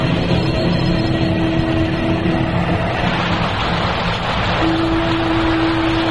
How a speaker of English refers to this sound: it's raining today. Raining hard. And I can't tell you how happy we were to feel those first few drops.